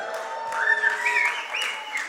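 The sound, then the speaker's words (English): A church audience cheers and applauds for the kids, with steady clapping under high, rising whoops and shouts that swell and overlap for a couple of seconds at a loud, even level. “Can we just cheer for the kids?”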